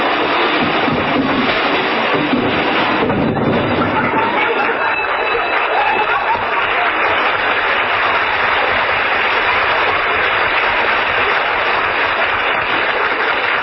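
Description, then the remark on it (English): A radio sound effect: a long, loud cascade of crashing and clattering junk tumbling out of Fibber McGee's stuffed closet as he opens the door, a dense rattling din that keeps going for over ten seconds without letting up. “When Fibber runs to open that closet door, look out!”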